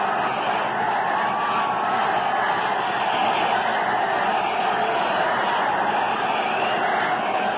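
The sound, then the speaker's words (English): A baseball stadium crowd of about 44,000 roars and cheers for pitcher Dizzy Dean at the close of the first half of the sixth inning, in a dense, unbroken wall of noise that stays loud and steady for the whole stretch, with no single voice standing out. “And listen to that sound roar for Dean.”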